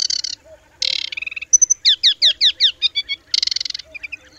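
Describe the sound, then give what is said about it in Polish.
A male aquatic warbler sings in varied bursts: buzzy trills, a run of rhythmic rising whistled notes, and quieter soft whistles between phrases, with no talking. “W miejscu o dużej liczbie samców rzadko się zdarza, by wszystkie ptaki śpiewały równocześnie.”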